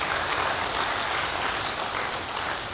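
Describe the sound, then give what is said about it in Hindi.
Steady applause from a crowd at a Brahma Kumaris spiritual talk, the audience clapping for themselves: a dense continuous patter of many hands clapping at an even loudness throughout, with no voices standing out above it. “फिर तो ताली बजाइए अपने लिए।”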